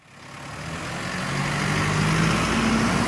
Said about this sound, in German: Ein Lastwagen verlässt den Hof von Petra Dräger-Röder.